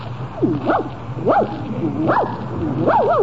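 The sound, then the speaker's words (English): A small dog gives four high, yelping barks in a steady series, each one sliding up and down in pitch like a whiny yip, fairly loud. “Oh, Jack, look at that cute little dog.”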